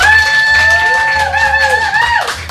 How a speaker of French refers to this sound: Et les amis, on va demander au public d'applaudir. C'est la dernière émission de l'année.